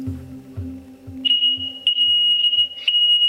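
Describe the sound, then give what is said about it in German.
A smoke detector beeps loudly and shrilly, starting after a brief low rumble and repeating piercing tones roughly once a second, nearly continuous, over faint rhythmic low thuds. “Ich breche die Aufnahme ab und das liegt nicht am lautstarken Rauchmelder.”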